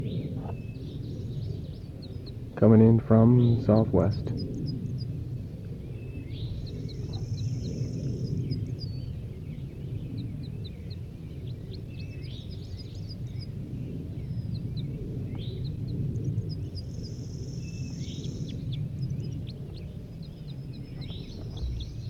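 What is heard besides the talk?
crossbills calling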